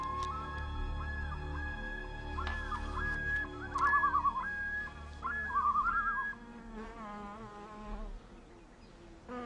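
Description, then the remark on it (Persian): Hundreds of honeybees bringing nectar to their hive in a dry tree trunk buzz steadily throughout, a droning hum with wavering pitch that swells louder twice as insects pass, then settles back into a softer background hum. No one speaks. “این زنبورها در تمام روز شهد جمع آوری کرده و در شکم خود آن را به یکی از غنی ترین غذاهای طبیعی تبدیل می کنند.”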